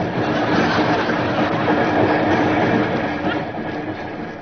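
A train rolls steadily along the tracks with a dense, continuous rumble and a faint rhythmic clatter of wheels, holding loud and even before easing slightly toward the end.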